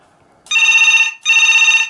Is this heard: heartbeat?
no